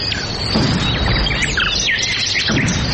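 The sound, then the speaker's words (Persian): Many birds in flight chirp and twitter at once in a busy, overlapping chorus, fairly loud and steady throughout, over a low rumbling background with no talking. “شنونده های عزیز سلام، درب برنامه را می گوشاییم و پرواز پرندگانه را به تماشا می نشینیم که از بیم وسایل شکار شکارچیان در پروازند.”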